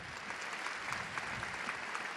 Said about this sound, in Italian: Gli applausi ripetuti e ravvicinati sono il termometro della sete della gente che non sembra mai sazia di ascoltare dalle labbra del Papa di un Dio che è amore e perdono, non un giudice, ma un papà dal cuore larghissimo.